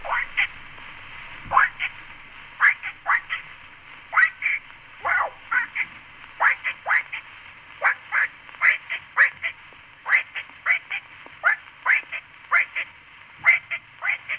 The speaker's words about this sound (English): The little frog in the brook that flows by my cabin is nightly calling and listening, until his bulbous-throated brothers respond in chorus.